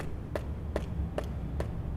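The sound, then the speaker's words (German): Five dull, evenly spaced knocks on an old, original clinker brick wall of a sewer built with several clinker layers, each a short hollow thud over a steady low rumble, with no voices. “Also selbst wenn die erste Schicht, wenn Sie die anklopfen und sie hört sich natürlich nicht mehr so an wie eine neue, sie klingt ein bisschen dumm.”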